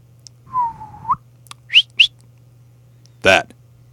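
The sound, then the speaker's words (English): A clear whistled note that dips and rises, followed by two quick, high chirping whistles and then a brief, sharper burst, all over a faint, steady low hum. “Kind of does, but there's been some suspicious whistling going on.”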